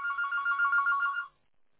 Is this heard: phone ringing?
yes